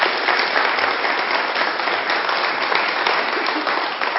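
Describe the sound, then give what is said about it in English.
An audience claps steadily for several seconds, a dense, even patter of many hands with no pauses and no voices standing out, as a young girl comes forward to help the speaker with an illustration. “Give her a round of applause, she comes up.”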